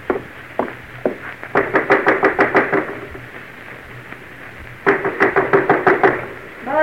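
Someone knocks on a wooden door in two quick, loud bursts of rapid raps, with a couple of single knocks leading in and a short pause between the bursts.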